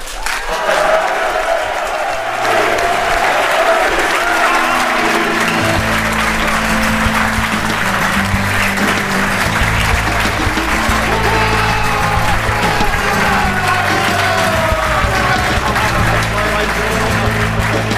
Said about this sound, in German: Begrüßt bitte mit einem dem Thema entsprechenden Applaus.